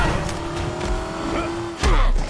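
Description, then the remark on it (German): A video game car engine hums steadily with a sustained tone, then a louder burst of rumbling noise near the end, like the car accelerating or skidding. “Auto.”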